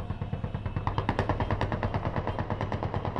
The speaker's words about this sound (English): News of the UN vote was met with celebratory gunfire in Benghazi.